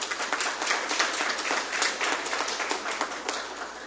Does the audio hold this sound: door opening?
no